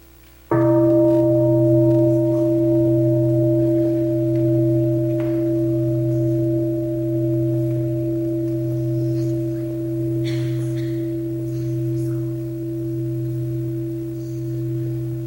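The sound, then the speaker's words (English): A single deep mindfulness bell is struck once and left to ring, its low, steady hum resonating and slowly fading over many seconds with no voices around it. “Center like Deer Park, we practice listening to the bell. Every time we hear the bell, we stop our thinking.”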